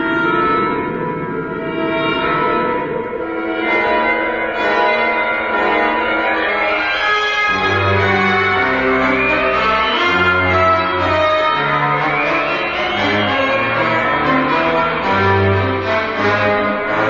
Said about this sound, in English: anybody that heard that music in those days rushed to the radio to be frightened out of their lives. It was wonderful. Well, let's have a listen to Journey into Space and Operation Luna.